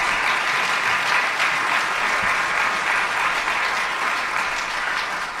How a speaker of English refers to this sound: Let's give our candidates a round of applause, if you would.